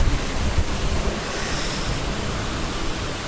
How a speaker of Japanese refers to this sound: 滝状に流れてる噴水が僕の横にあります。